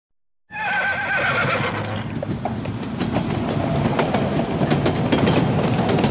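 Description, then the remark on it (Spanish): A horse, spurred by Don Quixote as he charges at the windmills, lets out a loud, quavering whinny that trails off after about a second, giving way to a steady, heavy rumbling clatter that continues to the end. “Empeñado Don Quijote en luchar contra los gigantes, dio espuelas a su caballo y se lanzó con gran fuerza sobre los molinos.”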